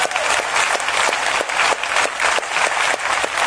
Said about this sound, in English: Thank you. Let's give her a big round of applause, folks.